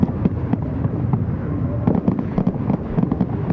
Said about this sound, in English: Like Starr, like Gatsby, like Fitzgerald too, the fireworks blaze and then come undone.